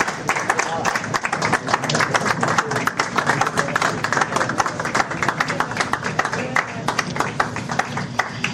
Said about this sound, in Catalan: Que passin els imprescindibles! Vinga, va, un fort aplaudiment per tots ells i elles.